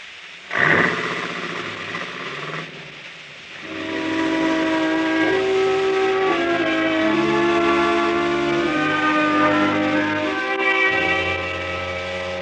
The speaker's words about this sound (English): You know, if you think of it the right way, even the sound of a factory whistle is mighty pretty.